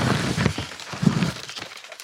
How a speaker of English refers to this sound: Listen to the crinkles of the paper bag. Get it closer. The recyclable paper bag.